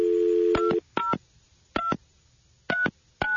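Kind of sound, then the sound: signal or alarm, telephone being dialed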